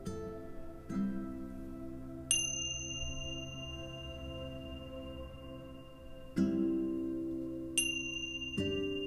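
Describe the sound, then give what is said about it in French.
Meditation bells ring out alone, marking the end of a meditation, struck about five times at an unhurried pace. A deep, humming bell alternates with a bright, high chime, and each tone sustains and slowly fades. “Et après d'avoir sonné les cloches, je vous invite à simplement revenir à votre rythme et ouvrir les yeux.”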